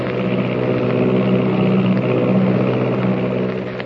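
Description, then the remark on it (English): An Army propeller plane drones steadily and loudly in flight at 300 miles an hour, its engine roar holding a deep, even hum with a pulsing throb throughout, easing off slightly at the very end. “Is there someone lurking in the tail of the Army plane as it roars through the sky at 300 miles an hour?”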